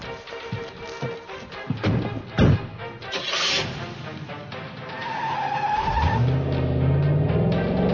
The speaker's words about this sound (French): Bordel, ils nous suivent! Y'a deux bagnoles et un putain de camion!